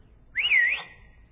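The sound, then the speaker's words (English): A single sharp, loud whistle from a man on an airplane trying to get a flight attendant's attention, sliding up, dipping, then rising again over about half a second before quiet returns. “she stared at him in shock, and he whistled again, and like this”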